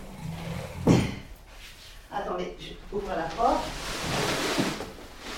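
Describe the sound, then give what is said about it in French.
A door is opened with a sharp clunk near the start, followed by a muffled voice and then a steady rush of air coming out for a couple of seconds, blowing dust and papers about. “Attendez, j'ouvre la porte.”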